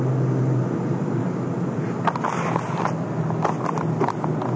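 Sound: car driving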